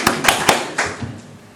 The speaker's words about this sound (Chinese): 这些是教会的宝贝来的，鼓掌。 这是教会的宝贝，也鼓掌。